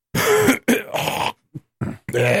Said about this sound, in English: All right, now everyone's throats are clear and we're getting ready to start.